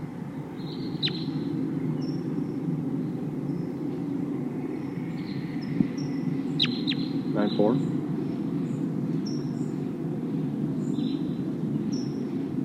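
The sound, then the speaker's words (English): A flock of about 10 crossbills giving flight calls as they head for a pine tree: many short, sharp, high-pitched kip notes scattered irregularly throughout, fairly faint over a steady low rumbling background. “It sounds like there's a whole flock of crossbills here.”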